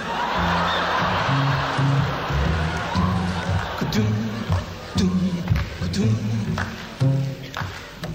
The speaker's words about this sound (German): Schnippen, habe ich gesagt, nicht klatschen. Oder hast du so breite Finger?